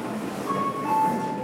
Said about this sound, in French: C'est l'heure de pointe dans le métro de Tokyo. Et coronavirus oblige.